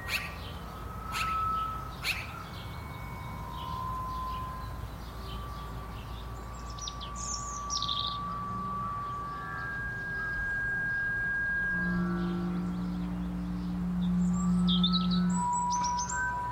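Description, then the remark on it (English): Magpies call in short, harsh bursts against an outdoor backdrop, with a cluster of chirps midway and another near the end, plus a few faint, steady tonal notes. No one speaks. “Maybe hearing the magpies again is what got me thinking about birds in the first place.”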